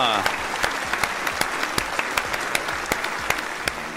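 Sharp hand claps ring out in a steady, slightly uneven rhythm, about a dozen in four seconds, fairly loud over a dense bed of crowd-like applause noise.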